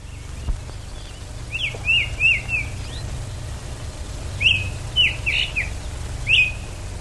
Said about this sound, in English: In fact, here's an old 1929 recording of a rose-breasted grosbeak.